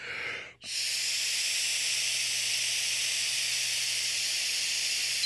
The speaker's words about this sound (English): I'll tell you a little story here, but first I have to blow into the breathalyzer. Just blow until it beeps. Here we go. I'm blowing till it beeps.